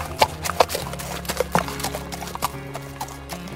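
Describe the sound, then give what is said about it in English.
Horse hooves clip-clop in a loose, uneven rhythm at a walking pace, moderately loud, over a low steady background hum. “He jumped off his horse and ran to Tunstall's lifeless body.”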